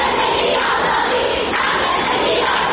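A large protest crowd in the streets of Iran chants slogans together in a loud, continuous roar of many voices, the collective shouting rising and falling in steady waves without a break.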